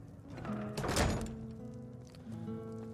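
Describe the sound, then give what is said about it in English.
Doors are pushed shut behind people heading into a back room, with a dull thunk about a second in, the impact briefly louder over a steady low background hum, followed by quieter shuffling. “Let's close the doors behind us.”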